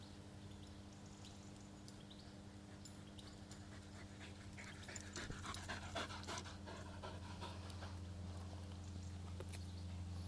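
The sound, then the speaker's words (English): A female dog pants heavily and wetly in picked-up wind, quick rhythmic breaths with slobbery mouth sounds of very viscous slobber growing louder midway, over a steady low hum and no talking. “Dog's slobber is really viscous.”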